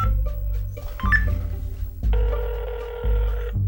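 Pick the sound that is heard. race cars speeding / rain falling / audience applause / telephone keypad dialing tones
telephone keypad dialing tones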